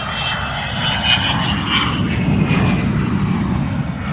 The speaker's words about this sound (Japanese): One big problem with supersonic planes was noise. Supersonic plane with noise.